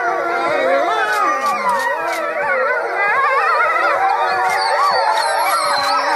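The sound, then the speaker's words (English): A wolf pack howls together in a loud, continuous chorus, many overlapping voices rising and falling in pitch and weaving around each other for several seconds, with no talking; the wolves are howling at a safety alarm siren. “So whenever the alarm goes off, they howl at it.”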